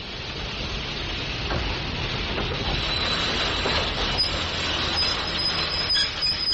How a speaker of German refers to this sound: Da kommt ja schon ein Zug. Jetzt werden wir es ja sehen.